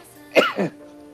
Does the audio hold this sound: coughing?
yes